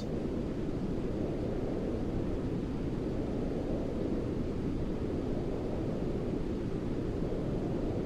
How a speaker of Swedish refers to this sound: Men nu ska ni höra på lite brus som då är avslappnande. Man sover bättre och det maskerar liksom andra jobbiga ljud. Till exempel om man har tinnitus till exempel, då är det ju bra att lyssna på någonting. Men lyssna, så här låter brus.